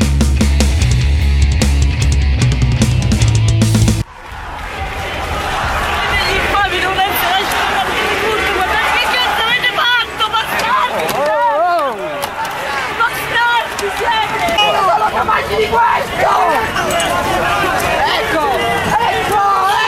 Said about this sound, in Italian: Queste sono le grida di paura, di terrore, di rabbia delle persone accorse in Piazza Limonda subito dopo l'omicidio di Carlo Giuliani.